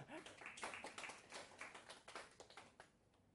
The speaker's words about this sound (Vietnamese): Xin một tràng pháo tay để khích lệ cho anh bạn này.